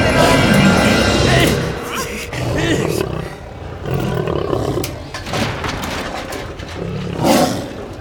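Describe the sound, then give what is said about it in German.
A lion roars loudly, a deep rumbling growl rising and falling in several heavy bursts across the whole stretch, with a sharp snarling peak near the end. “Wir müssen sie aus den Pranken des Löwen befreien.”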